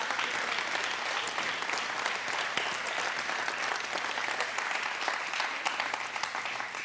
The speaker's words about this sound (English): Come on, give God praise again, guys. Oh, I'm sorry. That means clap your hands and tell God thank you.